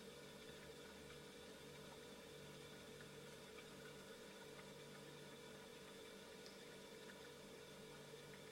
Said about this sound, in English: Gently introduce our background sound of the hum of a fridge. And turning your awareness toward that sound.